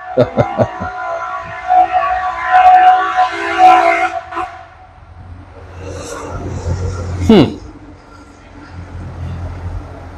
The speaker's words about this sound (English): I think that's the first fire truck I've seen in Africa. Is I didn't see any in Nigeria in 5 years.